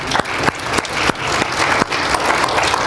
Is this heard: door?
no